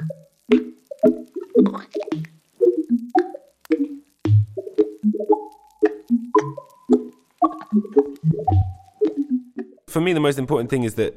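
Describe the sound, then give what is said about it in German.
Crabs' popcorn-like pops and plops in a music track repeat in a steady, beat-like rhythm, mixed with short pitched blips, before a dense, buzzing crackle of sound takes over at the end. “Und ein Track wimmelt von Krabben und ihren Popcorn-Geräuschen.”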